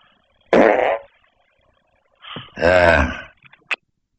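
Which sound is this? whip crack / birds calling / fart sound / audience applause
fart sound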